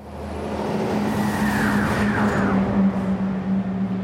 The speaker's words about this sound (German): 46 km/h hat jetzt dieser LKW in der 30er-Zone. Der fährt auch eher in der Mitte der Straße. Der räumt hier frei. Die Straße hier in Berlin-Neukölln ist schön asphaltiert. Trotzdem ist das eine 30-Zone